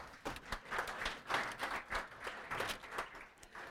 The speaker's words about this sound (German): Danke vielmals, ihr seid so gute Assistenten. Ich finde, sie haben einen Applaus verdient.